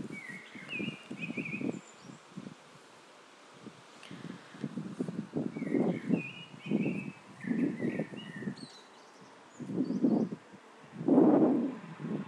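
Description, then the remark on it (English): A bird sings in a garden in short, repeated whistled phrases over gusty rustling and low wind noise that comes and goes in bursts. No one speaks. “I'm out in my garden and I am going to record a bird.”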